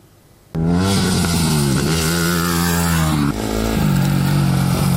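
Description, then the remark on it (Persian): An Iranian woman motorcyclist's motorcycle engine starts up abruptly and revs loudly, its throaty drone rising and falling, with a brief dip before revving again. No one speaks. “دختر موتور سوار ایرانی که با موفقیت آرزوهایش را دنبال کرده.”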